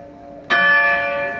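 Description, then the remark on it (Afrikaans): A large 300 kg slave bell at the main entrance of the Castle of Good Hope in South Africa, cast in Amsterdam in 1697, is struck once with a sharp onset, its rich, ringing tone sustaining and slowly fading, heard alone over a faint steady background hum. “Dit is die gelui van die groot klok by die hoofingang van die kasteel.”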